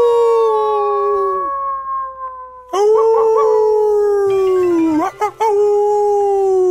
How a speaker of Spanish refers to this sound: Bueno, el aullido del lobo, que es lo más importante. ¿Vieron que siempre se hace?